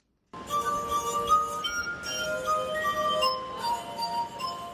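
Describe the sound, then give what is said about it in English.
Sustained, ringing glass tones from fingertips rubbing the rims of water-filled glasses of a glass harp, several pure pitches overlapping and sliding into a slow melody, Beethoven's Ode to Joy, steady with no voices, played for visitors in Alexandria, Virginia. “He uses his fingertips to rub the rim of the glasses to create a range of musical tones.”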